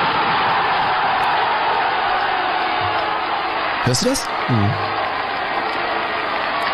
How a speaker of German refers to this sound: Und das Stadion an der Hafenstraße war einfach legendär. Ich meine, ich habe mal so einen Torjubel mitgebracht, wie das klang, wenn Essen getroffen hat in den 70er Jahren.